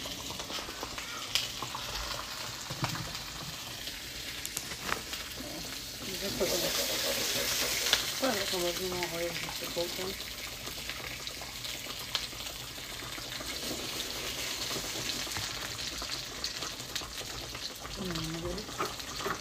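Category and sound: food or drink, liquid boiling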